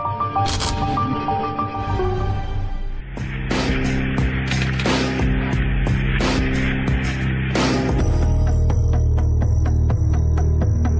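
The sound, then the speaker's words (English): A low electrical hum runs throughout, joined midway by a loud burst of hissing television static with sharp crackles for several seconds before it cuts back to the buzzing hum. “Before the advent of satellite television, static white noise dominated the airwaves across the Arab world.”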